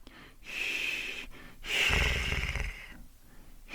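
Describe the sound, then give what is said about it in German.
A voice imitates the breathy sound made before the first snore, demonstrating the German CH sound with lips still and tongue relaxed as air streams through: two airy exhalations, the second longer and rougher with a low rattling undertone, moderately loud with no speech. “Ein bisschen ist es so, wie dieser Sound, den wir machen vor dem ersten Schnarcher.”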